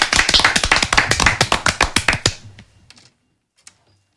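A short round of audience applause during a live radio session on 101.5 FM: brisk, crisp claps that run steadily for about two seconds, then thin out to a few scattered last claps before falling silent. No one speaks.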